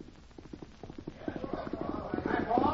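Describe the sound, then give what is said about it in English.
Hooves clip-clop in a steady, quickening rhythm as a man rides a horse up to a hitch rack and dismounts. The hoofbeats grow louder over the few seconds, with a faint higher rustle or jingle near the end. “Man and horse ride up, dismount.”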